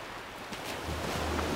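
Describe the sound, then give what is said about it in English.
A steady, broad wash of ocean surf with a low rumble swelling in partway through, like waves rolling in, with no voices. “When I was last alone in the classroom, I turned off all the lights and listened. And I wasn't wrong. The ocean was louder now.”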